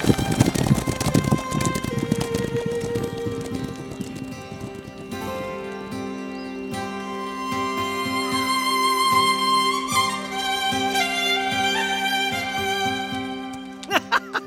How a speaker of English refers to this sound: Bring her horse! Ride!